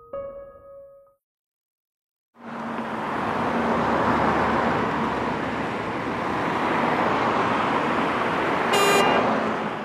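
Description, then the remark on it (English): Dense city traffic rumbles steadily, with a car horn tooting briefly at the start and another sharp honk near the end over the continuous roar of passing vehicles. “Cars are a big part of almost every city's streets.”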